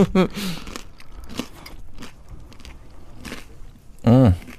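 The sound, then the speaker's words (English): Crunching as someone bites into and chews a crisp canapé topped with soft mozzarella, an olive and basil, several sharp crunches spaced irregularly, with a brief voice at the start and a short vocal sound at the end. “Nice crunch to it as well.”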